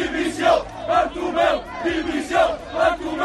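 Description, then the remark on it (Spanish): A massive stadium crowd at the Camp Nou chants in unison "Bartomeu, dimisión!", a rhythmic two-part shout repeated over and over with a steady beat, loud and dense with many voices blending together. “Anoche en el Camp Nou hubo un grito mayoritario.”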